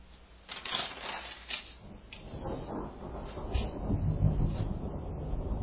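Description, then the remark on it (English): Rolling thunder rumbles, a low continuous growl that swells louder toward the end, with scattered cracking noises early on and no one speaking. “What you're hearing out there is a lot of thunder.”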